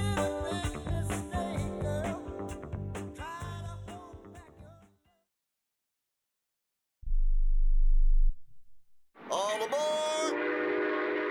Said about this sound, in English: Travel, and it's one of the oldest forms of transportation. Travel by train. Yes, consider traveling around the United States on Amtrak.